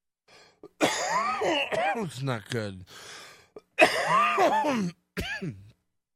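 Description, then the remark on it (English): Several harsh coughing fits and rough throat clearing come in three bursts, mixed with strained, groaning vocal sounds. A brief spoken remark follows near the end. “I know I'm just going to cough my brains out.”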